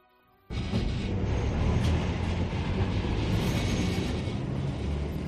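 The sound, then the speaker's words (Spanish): After a brief quiet moment, a tram rolls in on its rails with a sudden, loud, steady rumble and rattling wheel noise that stays continuous to the end. “Montaron en el tranvía con papá y mamá, como han hecho ya muchísimas veces”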